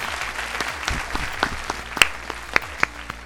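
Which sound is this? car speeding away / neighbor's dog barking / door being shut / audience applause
audience applause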